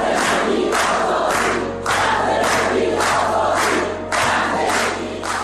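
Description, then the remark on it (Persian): A large protest crowd in the streets of Iran chants the slogan "Woman, Life, Freedom" in unison, loud rhythmic bursts of many voices repeating the same three-beat phrase over and over, with a steady roar of voices filling the gaps. “حمایت از معترضانی که همین یک سال پیش در خیابون‌های شهرهای مختلف ایران فریاد می‌زدند زن زندگی آزادی.”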